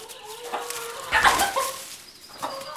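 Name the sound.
chickens clucking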